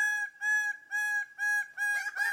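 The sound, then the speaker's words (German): A crow-type bird gives about five evenly spaced, nasal, fairly high calls, each held briefly, the last ones turning rougher and more broken. No voices. “Im Deutschen heißen manche Arten Krähe. Nebelkrähe.”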